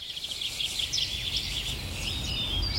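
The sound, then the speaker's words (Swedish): A dense chorus of birdsong from many different birds, with overlapping trills, chirps and whistles, steady and continuous over a low outdoor rumble, with no one speaking. Recorded during last year's live broadcast of Fågelsångsnatten (Birdsong Night) on Swedish radio P1. “En natt fylld av drillar, visslingar och sång från mängder av olika fåglar.”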